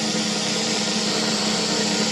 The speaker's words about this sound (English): Because I'm so excited to announce, this will be my second drumroll sound effect of the episode.